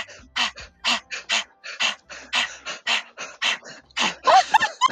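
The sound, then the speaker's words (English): A person imitates a dog's excited panting with tongue out, as a breath-of-fire breathing exercise: quick, breathy huffs in a steady rhythm, loud, ending with a few squeaky, whiny notes mixed into the pants. “Your tongue is out. And you just have to make a nice, happy doggy face. And you're going to go...”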